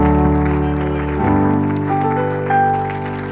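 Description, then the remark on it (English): An audience claps their hands in praise while sustained organ chords play loudly, the applause blending into the steady music throughout. “If you believe it, clap those hands and give him praise.”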